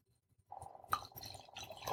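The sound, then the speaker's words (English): Liquid pours steadily into a genuine Irish crystal glass from Ireland, a continuous splashing stream starting after a brief quiet, with a bright clink partway through and rising gurgle near the end. “Okay, we're going to pour a little bit of this.”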